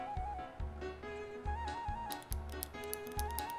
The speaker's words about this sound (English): please stop clicking your pen. Oh, sorry, it's a nervous habit.